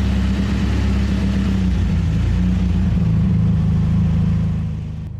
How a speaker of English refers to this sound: I leave the building and head towards my Suzuki. I get in and start the engine.